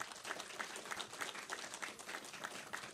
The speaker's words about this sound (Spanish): Les pido un aplauso para todos ustedes, por favor.